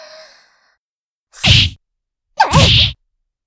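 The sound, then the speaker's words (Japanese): Two quick boxing punches in a row, each a sharp swish of air ending in a solid thwack as it lands on the opponent's face, spaced about a second apart, loud with silence between them. The punches are thrown by a girl who has just started boxing. “もしかして、私のパンチ、見えなかった？”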